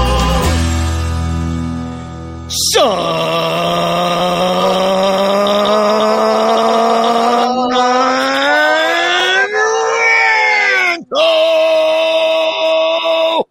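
A man screams his own fake name at full volume in one long, sustained, strained yell that rises in pitch near the end, briefly breaks off, then carries on loudly.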